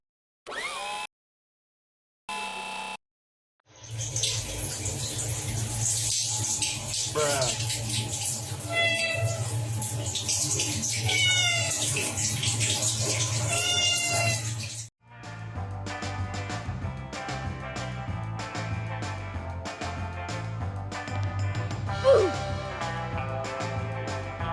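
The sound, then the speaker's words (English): A cat meows several times over a steady rush of running water, its cries wavering, followed by a busier stretch with scattered tonal sounds and faint background noise. “When something strange enters cat's brain, it's there forever.”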